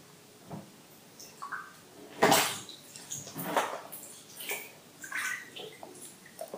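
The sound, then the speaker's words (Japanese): Bathwater sloshes and splashes in a tub in irregular bursts, with two louder splashes standing out among softer ripples and drips. No one speaks. “たまにはあなたとたわいもない話をしながらゆっくりとお湯に浸かったり、顔や体に触れてじゃれ合いながら楽しいお風呂タイム過ごしたいな。”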